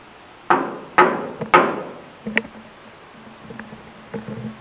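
knocking

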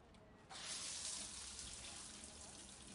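shower water running

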